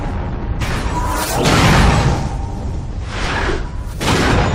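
big explosion

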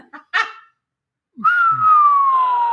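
slide whistle

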